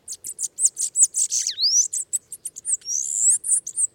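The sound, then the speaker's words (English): A bananaquit sings a rapid, buzzy string of high, thin chips and wheezy trills, with a few sliding notes, bright against a quiet background with no voices. “Bananaquits often forage alone or in small groups, rarely standing still or silent as they search out a sweet treat.”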